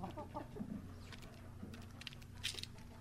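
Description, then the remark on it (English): Chickens cluck softly and intermittently while sharp little taps of pecking at food scatter throughout, with a low steady hum underneath; fairly quiet, no voices. “Speaking of birds, if you're lucky enough to own your own chickens, you'll recognize the sound of them pecking away at some food, giving them the fuel they need to lay their eggs.”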